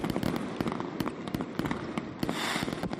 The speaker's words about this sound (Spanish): Así sonaba allí su nit del foc en Burriana, con más de un kilómetro de traca más castillo de fuegos artificiales.